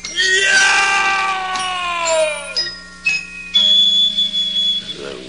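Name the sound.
man screaming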